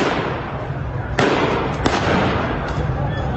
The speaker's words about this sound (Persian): شلیک مستقیم به معترضان بی آبی.